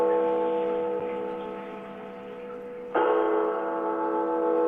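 Bells ring with a rich, sustained hum of overlapping tones, struck once at the start and again about three seconds later, each strike blooming and slowly fading. No voices.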